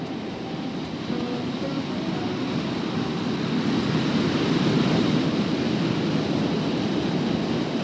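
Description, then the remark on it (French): A steady, loud roar of sea waves in a violent storm off the west coast of Mexico at night, with a broad rushing wash and wind mixed in, continuous with no breaks and no voices. “La côte ouest du Mexique, certes moins sujette aux ouragans que la façade caraïbe, était depuis quelques jours balayée par une violente tempête, laquelle était, cette nuit-là, en train de tout foutre en l'air et de projeter Cravan par-dessus bord.”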